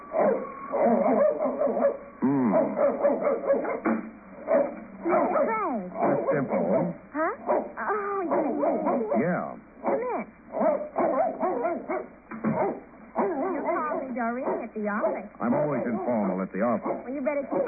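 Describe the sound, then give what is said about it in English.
A dog named Caesar barks and yips repeatedly, fairly loud, over a continuous stretch with people talking at the same time, all sounding muffled and narrow like an old broadcast recording. “he always barks like that unless he's been introduced.”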